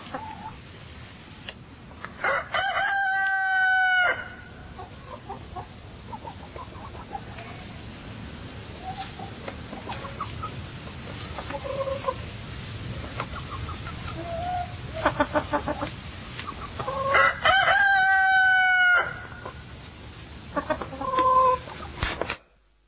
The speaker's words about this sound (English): Peter, the cockerel's going to crow